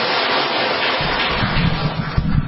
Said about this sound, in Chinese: 我们再次鼓掌，谢谢这位姐妹的见证。我们也鼓掌欢迎下一位见证人的见证。好，我们鼓掌欢迎这位姐妹，我们鼓掌欢迎她。